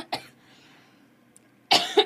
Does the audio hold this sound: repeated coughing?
yes